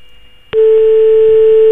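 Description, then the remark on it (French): A telephone ringback tone on an outgoing call to the AFP, placed live on Prisme Radio at 22:46: one steady, mid-pitched electronic beep starts abruptly after a brief quiet moment and holds loud and unbroken to the end, with no talking. “Il est possible que quelqu'un nous écoute d'ailleurs pendant que ça sonne.”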